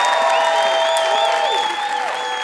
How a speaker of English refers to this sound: Give Peter Sarsgaard a huge round of applause for being a VIP.